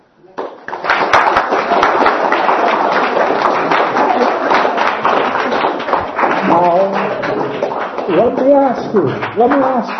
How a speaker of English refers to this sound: let me ask you, are you applauding because the talk is at the end? Or are you applauding because you thought, what a brilliant talk?